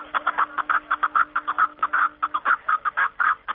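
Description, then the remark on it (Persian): A rapid series of loud, clucking calls of a snowcock repeats in quick rhythmic bursts, continuous, in a steady chattering pattern, heard in spring in the mountains of the Panjakent area of Tajikistan. “گزارش خود را با ققره کپکی دری شروع کرده است”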